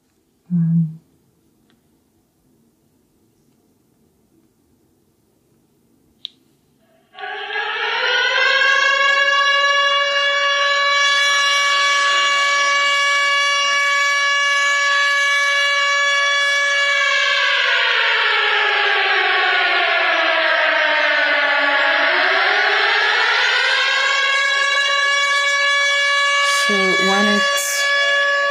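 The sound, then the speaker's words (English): An air raid alarm alert, called Povitryana Trevoga, plays as a sound on a phone after a few quiet seconds: a loud, steady wailing tone that holds its pitch, sags lower, then climbs back up and continues. “It's called Povitryana Trevoga. Then canceled of air alarm. Then air alarm.”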